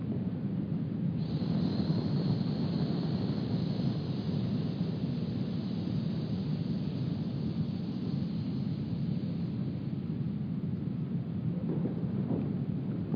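A person hisses during a body-awareness exercise: a long, steady breathy rush of air that carries on unbroken for about thirteen seconds, fairly loud, with a rough, rumbling edge and no talking over it.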